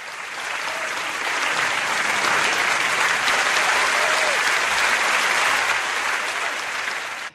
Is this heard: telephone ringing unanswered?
no